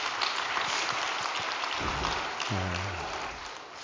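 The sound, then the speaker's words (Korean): A large audience claps continuously for a few seconds in encouragement for the blessed children of about 2,100 couples, a dense, steady wash of applause, with a brief voiced cheer rising out of the crowd near the end. “그리고 2100쌍에 달하는 축복 자녀들에게도 여러분 다 같이 큰 격려의 박수 한번 부탁드리겠습니다.”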